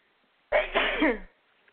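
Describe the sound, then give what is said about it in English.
A single loud human sneeze, caused by something in the nose, a sharp burst that trails off with a voiced tail, surrounded by near silence. “I think that's my first sneeze on all the shows, but something got in my nose and it didn't want to let go of me.”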